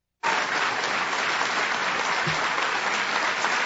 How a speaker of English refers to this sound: Okay, no, it was just applause. It just keeps going and going. That's why. It's just like, so much thunderous applause.